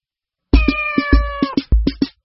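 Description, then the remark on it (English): A cat meows loudly, one long drawn-out meow followed by a shorter second one, with soft rhythmic thumps running underneath. “C is for cat.”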